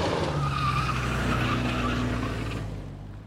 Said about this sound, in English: Then the sound of tires screeching as a vehicle sped off.